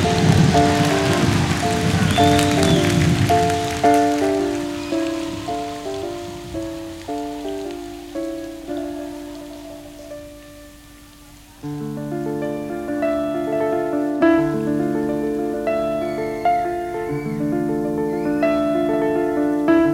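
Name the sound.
rain falling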